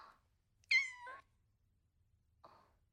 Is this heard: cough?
no